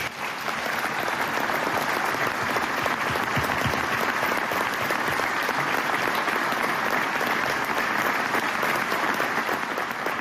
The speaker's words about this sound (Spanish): Ese era el aplauso del auditorio de Villarreal en la entrega de la medalla de oro de la ciudad de Villarreal a Llaneza el pasado mes de mayo.